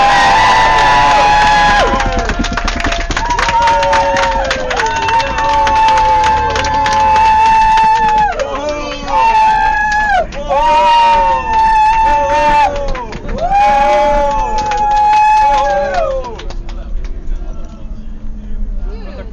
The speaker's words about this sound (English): G8 is not democracy. Another big cheer.